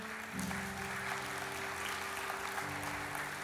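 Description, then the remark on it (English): An audience claps steadily for the kids, a dense, continuous wash of hand claps that holds at an even, fairly loud level from start to finish, with no voices speaking over it. “Let's give all of our kids a big round of applause.”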